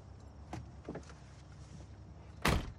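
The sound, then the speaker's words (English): A couple of soft clicks and shuffles, then a car door thuds shut once, loud, near the end as a man exits the car, against a low, steady background hum. No one speaks. “breaks free and exits the car.”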